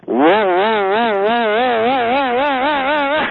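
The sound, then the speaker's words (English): A voice imitates the noise a truck makes in its front axle area in first and second gear in cold weather near or below freezing in Denver, with a loud, buzzy, sustained tone that warbles steadily up and down for about three seconds before cutting off. “And once I came to Denver, as the weather would get cold, either close to freezing or below freezing, both in first and second gear, the truck makes this horrible sound up in the front axle area.”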